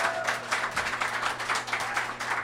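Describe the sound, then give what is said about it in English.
A crowd at a live show applauds in answer to a call for those attending both nights' shows, with dense, steady clapping for a couple of seconds, a busy crackle of many hands at a fairly even level, with a low hum underneath and no voices. “Applaud if you're seeing both of the shows here.”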